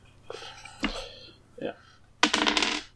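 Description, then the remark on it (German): A small six-sided die (D6) clatters on a hard table during a tabletop role-playing game, rolled to decide whether a dragon recharges its breath; a few quick clicks followed by a louder rattling roll that tumbles for a moment and settles, crisp. “Du hast einen D6, den du würfelst, und bei einer 5 und einer 6 lädt er seinen Drachenatem wieder auf, ansonsten nicht.”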